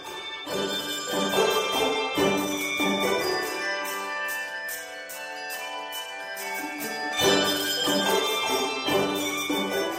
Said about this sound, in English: Maybe you've seen a handbell choir in church around Christmas time or in schools.